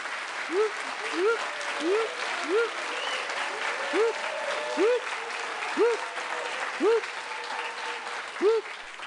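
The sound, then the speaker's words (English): Steady, dense audience applause fills the whole stretch, with about ten short rising-and-falling whooping tones from an applause meter under a plastic hen popping up at a regular beat over the clapping. “But that's an applause. Test out the applause meter.”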